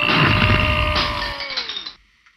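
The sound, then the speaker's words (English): A skeleton that was leaning against a well is knocked over and clatters down into the well, a loud burst of rattling, clinking knocks with ringing tones that slide lower, fading out over about two seconds with no voices. “You knocked the skeleton into the well, Pippin.”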